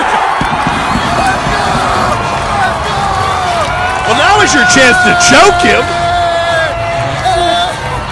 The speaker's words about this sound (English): And then the Vikings score, and the crowd lets his Packer fan have it.